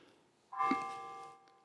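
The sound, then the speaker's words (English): A single church bell strike rings out, its bright tone lingering and slowly fading over about a second against an otherwise quiet background. “The bells are chiming right as I speak about Christ.”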